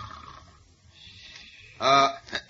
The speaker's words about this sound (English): Then, swiftly resuming the guise and garb of the mild-mannered reporter, Clark Kent, he strides into the deserted lobby of the small hotel and approaches the elderly clerk who snores peacefully in a chair behind the desk.